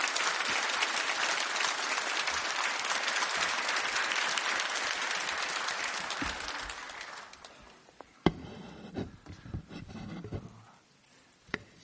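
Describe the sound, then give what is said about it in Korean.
A church audience at Bundang Woori Church claps steadily and loudly for about seven seconds, giving applause of thanks to God as it welcomes a guest pastor before his sermon. The applause then fades out, leaving a few scattered thumps and faint background noises. “우리 귀한 목사님 보내주신 하나님께 감사의 박수 올려드리며 목사님 맞이하겠습니다.”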